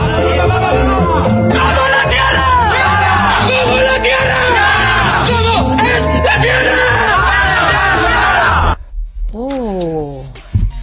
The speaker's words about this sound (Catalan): Flat Earth Football Club, el que en català seria Terra Plana Club de Futbol. I no t'ho perdis, perquè aquest era el seu crit prepartit.